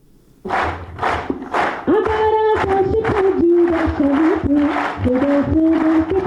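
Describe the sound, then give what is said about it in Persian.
Slow, steady rhythmic clapping by a group cheering 11 disabled soldiers of the Afghan National Army bound for the Invictus Games in Canada, joined after a couple of seconds by loud, sustained shouting and cheering while the unison claps keep beating underneath. “این صداها و چک چک از بحر تشویق 11 سرباز معلول اردوی ملی افغانستان است که قرار است به زودی برای شرکت در مسابقات جهانی موسوم به شکست ناپذیر وارد کانادا شوند.”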